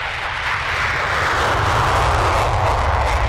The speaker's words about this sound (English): At a military airfield 900 miles east of Moscow, pilots are preparing their warplanes for an exercise dubbed Peace Mission 2018.